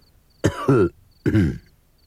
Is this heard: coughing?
yes